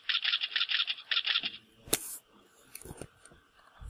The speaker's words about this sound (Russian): и по нажатию кнопки мыши мы идем выводить звук клика. Вот. Наверное, слышите.